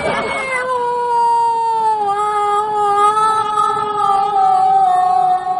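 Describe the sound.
A person imitates a cat's yowl, one sustained, wavering cry held loudly for several seconds with a slowly falling pitch, uninterrupted by talk.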